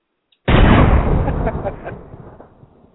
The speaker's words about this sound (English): I just think that explosion sound. That's pretty funny.